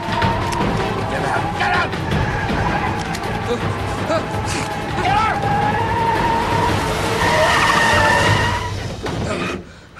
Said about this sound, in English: She turns his gear stick into reverse and makes the taxi head towards the crashed SUV.